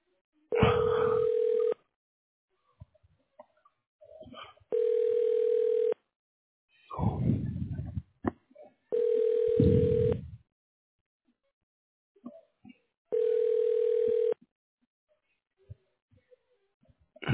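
A telephone line tone sounds in four evenly spaced beeps, each about a second long, with faint muffled rustling and low thumps in the gaps between them.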